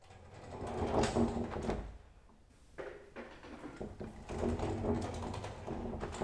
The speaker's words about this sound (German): Schiebetür auf, Schiebetür zu und zwischendurch hört man hinter der Tür im Nebenraum ein geheimnisvolles, kurzes Klacken. Was ist da los bei den Schulis in der Kita Lüdelüt in Wentorf bei Hamburg?